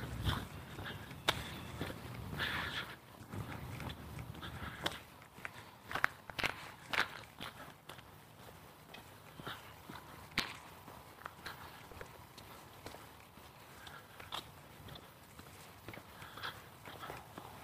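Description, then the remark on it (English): Crisp footsteps as a woman walks past with her small Scottish terrier on a Sunday morning, steady clicking steps and light scuffs over a quiet outdoor background, with no one talking. “There's a lady with her little Scotty dog.”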